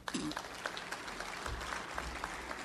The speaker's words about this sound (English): And for that, I think Growth Energy deserves a round of applause.